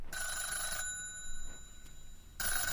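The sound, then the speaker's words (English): A telephone bell rings loudly in two bursts, a brisk ring followed by a pause and then the start of another ring, with no talking. “Excuse me while I answer the phone.”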